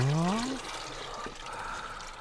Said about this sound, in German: Den Malzextrakt, den leere ich in den Gäreimer und rühre gescheit um, damit er sie auflöst.